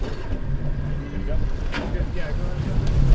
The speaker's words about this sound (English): Krimp guns it, pushing the skiff at an angle into the current